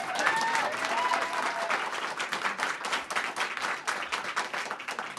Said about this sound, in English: Yo. That was not big applause for something historic. Come on.